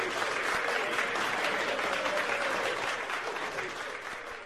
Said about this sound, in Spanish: Esos aplausos son para ti, ¿eh? Escúchalos.